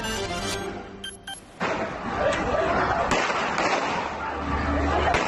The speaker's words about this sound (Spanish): Y este es el momento en el que uno de los terroristas de Cambrils es abatido a tiros por los Mossos de Escuadra.